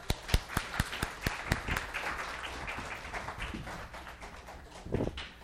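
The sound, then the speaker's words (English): A small group claps for helpers who did a good job: a few loud, evenly spaced claps at first, then a looser, softer patter of many hands that fades out near the end. “Let's clap for them.”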